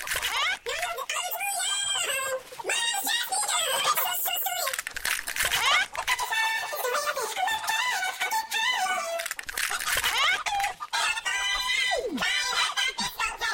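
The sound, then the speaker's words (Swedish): A dense, continuous chorus of hens clucking and squawking in a hen yard, many birds overlapping in busy, chattering calls that rise and fall with no pauses. “Vi går ut i hönsgården, vi öppnar upp våra ägg och i dem låter det...”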